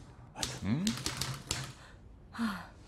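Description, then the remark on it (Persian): A burst of quick, sharp typewriter key strikes, fairly loud, clattering for about a second as someone types out a dictated text, with a brief murmured voice beneath and another short vocal sound after the typing stops. “خب حالا اینو تایپ کن یک منشی برای یک کار در حال توسعه نیازمند یواشتر باید توانایی تایپ سریع و همزمان و تایپ با چشم بسته را داشته باشد.”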